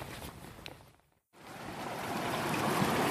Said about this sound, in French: Là je remonte le long d'une rivière souterraine. C'est des gros cailloux. Il faut escalader les uns après les autres.